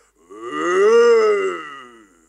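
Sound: goat bleating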